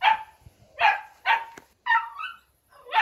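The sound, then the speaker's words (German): A puppy barks five times in quick yappy bursts, each sharp and high-pitched, with brief pauses between, sounding slightly thin as it is heard over a phone line. “Können Sie mal so einen Hund ans Telefon holen?”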